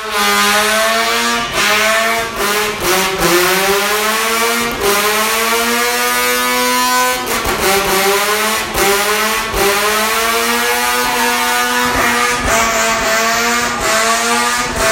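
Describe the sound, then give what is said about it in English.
A Mazda RX-7 rotary engine revs hard and continuously up to motorcycle-level RPMs, its buzzing harmonic tone sweeping up and down in pitch through repeated throttle blips and gear changes, loud throughout with no talking. “Yes, that was the rotary engine of the RX-7 cranking up to motorcycle level RPMs.”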